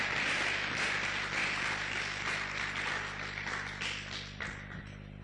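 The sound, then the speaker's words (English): An audience claps together at the preacher's request during a sermon, a steady, dense wash of many overlapping hand claps that holds for about five seconds and eases off slightly toward the end, with no voices over it. “Can you clap? I thought you would clap heartily.”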